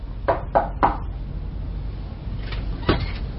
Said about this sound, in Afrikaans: Wag, ek klop weer.